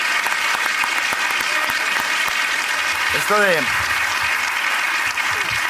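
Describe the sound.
Dense, steady audience applause fills the whole stretch with a loud, even crackle of many clapping hands, while a brief spoken phrase rises over it midway.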